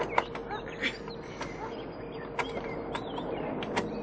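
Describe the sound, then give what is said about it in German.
A key rattles and clicks in the old lock of a trunk, several sharp metallic ticks spread out, mixed with short high squeaks of the creaking trunk lid. Fairly quiet, with no talking. “Puh, du quietschst, als ob ein Schlossgespenst den Deckel festhält.”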